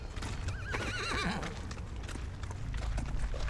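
A small horse being ridden clip-clops its hooves in a steady rhythm throughout, and a wavering whinny rises and falls early on over the hoofbeats.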